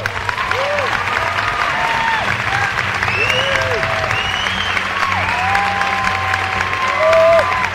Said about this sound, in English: It seems like The Matador is a hit. But applause is cheap.